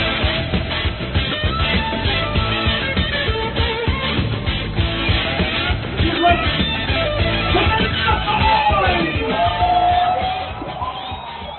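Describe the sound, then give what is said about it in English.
A football crowd in Lahoni, Iowa, coming to their feet during a one-point game against visiting Benedictine, urged on by the PA announcer, cheers loudly and steadily, a dense roar of many voices with scattered yells and whoops rising above it, easing off slightly near the end. “The crowd didn't need the encouragement from the PA guy, although they got it. They're coming to their feet regardless, and well, they should.”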